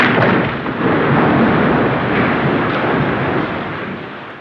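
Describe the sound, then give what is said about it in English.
The glass roof of the Crystal Hall crashes and shatters in one loud, sustained roar of smashing and rumbling debris, leaving broken glass over the stage. The roar holds steady for several seconds before easing slightly, with no voices. “Oh no, the roof! She's hit the...”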